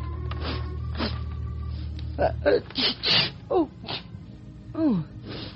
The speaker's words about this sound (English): In hair curlers and a bathrobe, munching an apple, Dixie Blake lies comfortably ensconced on her sofa. As she turns the pages of a magazine, she occasionally sniffles.